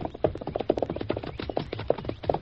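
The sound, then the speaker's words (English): Horses, including Silver and Scout, moving at a steady trot toward a small farmhouse, their hooves clip-clopping in a quick, uneven rhythm of sharp knocks over a low rumble. No one speaks. “We'll leave the horses in that clump of trees over there.”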